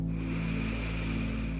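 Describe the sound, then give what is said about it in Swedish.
A slow, deep breath drawn in through the nose during a breathing meditation, steady, lasting a second or more over a low, constant background hum. “Lägga märke till hur andetaget låter och hur det känns.”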